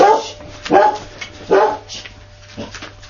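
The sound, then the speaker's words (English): A dog barks four times in quick succession, sharp yaps with short gaps between them, the last one softer, over a faint steady hum. “Why is the dog only excited when somebody comes?”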